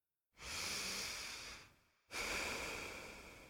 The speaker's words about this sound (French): inspirez, expirez, sans faire de pause entre les respirations. Respirez profondément pour entendre clairement le son de votre propre respiration.